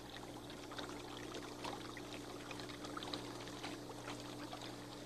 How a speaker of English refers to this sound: Let me put a little more water in it and see if that'll make it go. Yeah, that helps. It's working. You see that motor pushes the water around and it whirls all around like this.